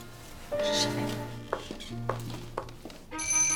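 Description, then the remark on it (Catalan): An alarm clock on a bedside table, groped for by someone in bed, rings with steady electronic tones, and a few sharp knocks and clicks cut in partway through before a brighter, higher-pitched ring starts near the end. “Des del llit, en Gerard palpa la tauleta de nit buscant el despertador.”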